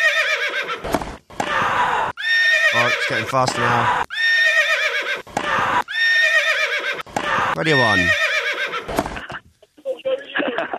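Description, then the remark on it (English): Repeated loud, shrill horse whinnies ring out, mixed with sharp rhythmic hoof clip-clops, while a person talks over the sounds during a Radio 1 broadcast. “And the horse wins.”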